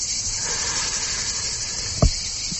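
Cicadas chirr in summer heat in a continuous, high-pitched, hissing drone that holds steady throughout, broken only by a single short low thump near the end.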